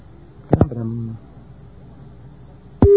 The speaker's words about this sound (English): First, I dial the access number and I get a special dial tone.